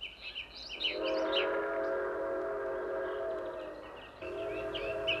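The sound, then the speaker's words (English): A Japanese steam train approaches to cross a bridge, its whistle blowing one long, steady multi-toned blast over a low rumble, with birds chirping briefly at the start and again at the end. “It our first Japanese puff-puff coming for cross a bridge.”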